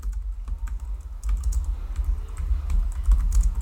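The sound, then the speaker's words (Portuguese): Rapid, irregular clicks of typing on a computer keyboard, short sharp taps clustered in bursts over a steady low rumble, with no voices. “Essa sou eu digitando.”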